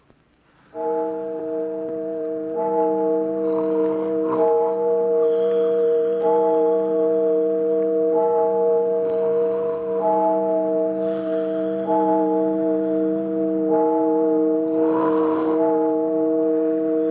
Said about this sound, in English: But rain or no rain, we just waited and waited until the church clock struck 12.